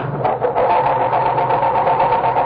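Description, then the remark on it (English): A car engine cranks over and over without catching because the coil wire to its distributor has been removed, a steady, rhythmic mechanical churning that stays loud throughout, with no voices. “It sounds like our culprits are having trouble starting Dennis's car.”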